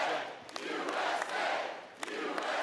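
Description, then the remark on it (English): A large crowd at a Romney campaign bus-tour rally roars and chants "USA! USA!" in unison, the loud, dense wall of voices swelling and dipping in a steady rhythm, with sharp claps or shouts popping out now and then. “Intensity built from one stop to the next, and everywhere the audience shouted, USA!”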